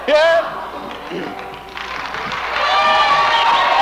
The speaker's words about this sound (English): If you think you're clapping now, just think what you're going to clap like later on.